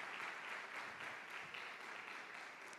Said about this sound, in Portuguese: Dê uma salva de palmas.